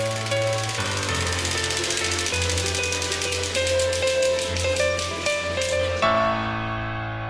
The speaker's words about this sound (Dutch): Ja, ik heb nou een soort van, even voor de luisteraar, ik heb nou een soort van hypnotiserend wiel voor me. Met allemaal kleurtjes en termen. En daar ga ik nu aan draaien. Yes! Het is weer tijd voor het Rad van Interactie.